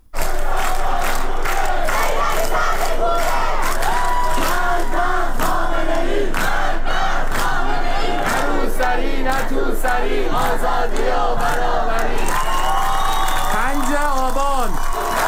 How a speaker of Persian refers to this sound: تظاهرات شبانه در نقاط مختلف کشور از جمله در تهران، در نارمک و شهرک چیتگر روز گذشته نیز ادامه یافت.